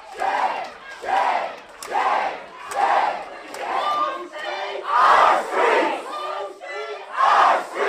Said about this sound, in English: Amid calls for the council's resignation, police dragged three people out and pandemonium erupted. The cameras and microphones were cut off. Councilors walked out and chants ruled the room for nearly half an hour.